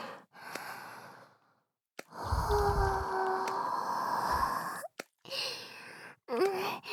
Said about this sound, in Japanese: 先輩の荒い呼吸に合わせて熱い吐息を吹きかけて、唾液を絡め取られながらフェロモンを思いっきり吸い込んじゃいましたね。